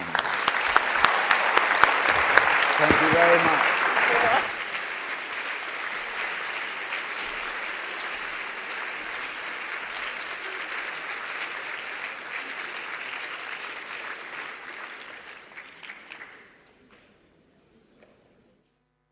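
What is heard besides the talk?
audience applause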